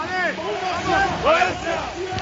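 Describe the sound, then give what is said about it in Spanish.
A basketball crowd of about 9,000 spectators at Valencia Basket's home arena, at a game against Real Madrid, chants and cheers in unison for their team, a loud wash of many voices rising and falling in repeated swells, with overlapping shouts and babble throughout. “Uno más es lo que piden. Aplauden a los suyos y voy a ver si entre toda esta jarana es capaz de escucharme un segundo, que la traca me atropella.”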